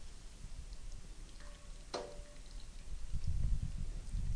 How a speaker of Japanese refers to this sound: ちょうどいい茹で加減ですので、ザルを上げますね。火を止めて鍋の上でしっかりお湯を切ります。